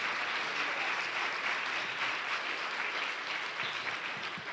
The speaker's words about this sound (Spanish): Es más, démele un aplauso al Rey de Reyes y Señor de Señores.